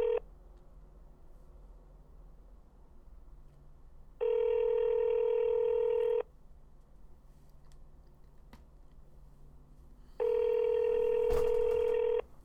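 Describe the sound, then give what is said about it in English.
A phone line rings out with ringback tones while a call is being transferred to a detective, steady two-second tone bursts separated by about four seconds of quiet over a low background hum, with no voices. “So I'm gonna transfer you to this detective, okay?”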